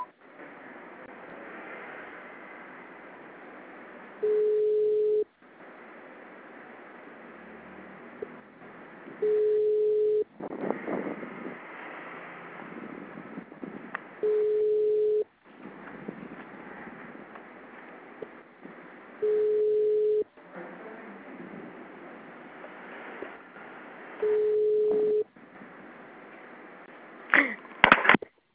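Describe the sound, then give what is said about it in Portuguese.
A steady, mid-pitched telephone beep sounds five times, about every five seconds, each lasting roughly a second, between stretches of muffled, narrow-band recorded voice prompts in Portuguese from a digital phone service asking the caller to dial the desired extension after the tone or wait. “Após o sinal, digite o ramal desejado ou aguarde.”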